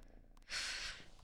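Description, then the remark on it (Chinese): A single airy, hissing snore from Donglian, a sleeping pet, fairly soft, lasting about half a second with no talking. “冬莲都睡着了，都打呼噜了，比你打的还响。”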